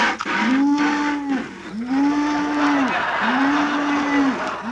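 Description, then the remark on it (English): A cow moos three times in a row, each call a long, steady, low bellow of about a second, separated by short pauses, with no talking. “the cow is milked already.”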